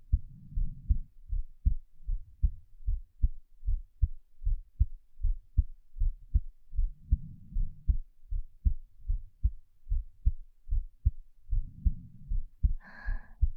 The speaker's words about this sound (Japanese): 心臓の音を聞いていると落ち着きまちよね。私のかわいいかわいい赤ちゃん。ママの心臓の音を聞きながら、もっと赤ちゃんになろうね。